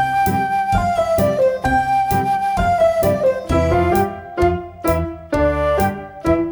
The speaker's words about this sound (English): Will you play some white keys softly, please?